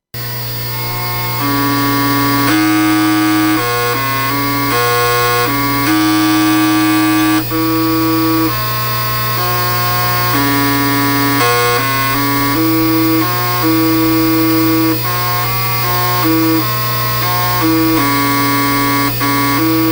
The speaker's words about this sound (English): A common program on the C64 makes the diskette drive play tunes. One I found play … by vibrating the disk drive's head assembly at a high frequency, generating audible tunes.